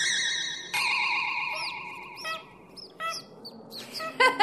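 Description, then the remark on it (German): A cockatoo squeaks like a mouse: a long, wavering high-pitched squeal followed by a run of short, thin squeaks and chirps, fairly clear, with no talking. “Ene Mene Graus, pieps wie eine Maus. Hex, Hex!”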